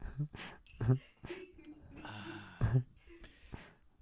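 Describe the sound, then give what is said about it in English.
A kitchen sink drain gurgles and gulps in several irregular, wheezy bursts, moderately loud, sounding almost like breathing. “Wow, even our kitchen sink is breathing.”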